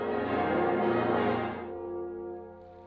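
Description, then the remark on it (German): The full peal of all 12 bronze church bells in Hildesheim ringing together at the end of a bell concert in the evening: a dense wash of overlapping tones that swells loudly, then thins as the bells fade into a lingering harmonic hum. “Schließlich endete das Konzert mit dem Plenum aller 12 Glocken.”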